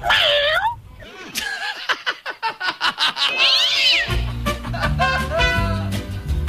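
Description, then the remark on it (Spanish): A person imitates a cat, letting out drawn-out, wavering meows, then quick rhythmic chattering bursts and more sliding meow cries, fairly loud, with a low hum entering near the end. “Mi esposa dice que soy un lindo gatito.”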